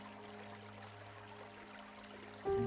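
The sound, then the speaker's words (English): A shallow stream with sandy banks, shallow at the edges and deeper in the middle, flows gently and steadily, a soft continuous trickling wash, with a faint low hum beneath and a sudden louder tone entering right at the end. “You don't have to go too far, and you can see this beautiful stream with sandy banks.”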